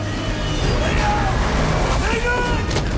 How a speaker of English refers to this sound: Raph runs back across the rooftops and is just in time to see the generals and the Foot Clan leaving with the now unconscious Leo. The villains drive off in Winter's monster collection truck.